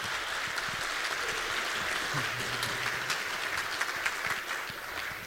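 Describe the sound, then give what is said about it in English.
Steady audience applause welcoming a speaker to a talk on untethering iOS, filling the whole clip, a dense wash of many hands clapping at an even, sustained level with a faint murmur of voices beneath. “Please give him a warm welcoming applause.”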